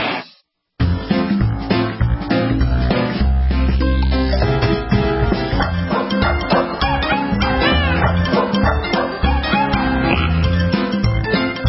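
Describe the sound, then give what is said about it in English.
Repeated dog barks and yips over a loud, upbeat music bed that plays without a break after a brief quiet start; the barking is woven into the music rather than standing alone. “Time to listen to your dog and your cat and all of your pets, in fact, because they'll be talking with Warren Eckstein of the Pet Show fame, author, psychiatrist.”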